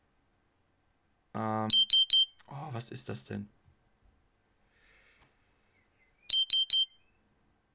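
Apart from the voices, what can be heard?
diabetes monitor alarm beeping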